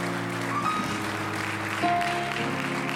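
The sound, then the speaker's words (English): An audience at a church service claps their hands to bless the Lord's name in a steady, dense wash of applause, with sustained organ-like tones humming underneath throughout. “Let's clap our hands once more and bless his name.”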